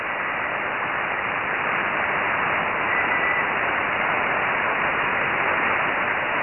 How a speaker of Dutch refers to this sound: Maar je bent heel zachtjes, over. Zit heel diep in de ruis.